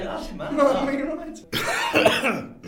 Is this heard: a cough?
yes